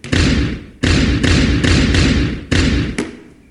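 A ball is dribbled, struck repeatedly so it bounces on a hard floor, about seven loud thumps in a steady dribbling rhythm, each with a short echoing decay. No one speaks.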